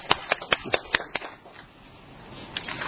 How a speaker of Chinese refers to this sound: 我们都祝贺他们两位。在哪里？刚行开了，我们都拍手掌。